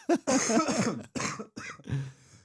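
A man coughs several times in quick bursts, then clears his throat with a low, raspy rumble; fairly loud, with no talking.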